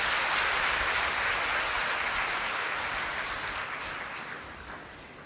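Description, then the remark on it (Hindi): A crowd applauds the three performers of the Madhurvani Group steadily, a dense wash of many hands clapping together that holds for several seconds before slowly tapering off. No one speaks over it. “बहुत बहुत बहुत धन्यवाद मधुरवाणी ग्रुप, फिर से इन त्रिमूर्ति आत्माओं के लिए जोरदार तालियां बजाएंगे।”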